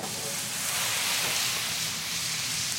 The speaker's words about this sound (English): I went into the pasta pot. I took a ladle of water, and I threw it in the pan with the sausages and the garlic and the oil.